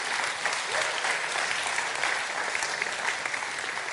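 Sustained audience applause fills the whole stretch, a dense, steady clatter of many hands clapping at once, fairly loud, with no voices standing out.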